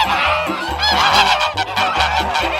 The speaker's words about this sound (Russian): Да гогот гусиный еще долго стоял по улице.